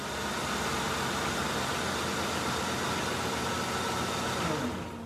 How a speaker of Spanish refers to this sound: acaba de llegar un carro muy elegante y caro. Se está estacionando al frente y parece ser una señora muy refinada.